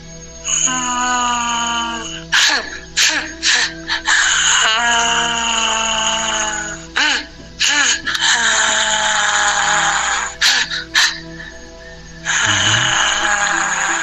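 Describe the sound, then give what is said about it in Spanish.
An eerie wailing cry rises and wavers in long, high, tonal moans, broken by a few brief pauses and sliding in pitch as it goes, loud and continuous over a low steady hum. “El llanto más o menos era así.”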